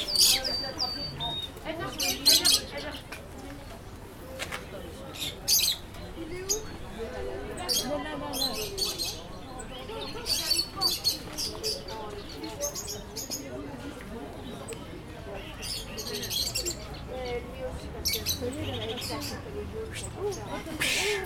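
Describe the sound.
Bright, high-pitched bird chirps repeat in quick bursts throughout, clear, over a busy background of low murmuring voices and room noise.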